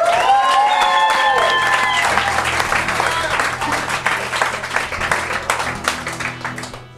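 An audience breaks into loud, sustained applause, dense clapping mixed with a few cheers and whoops at the start, then gradually thinning out toward the end.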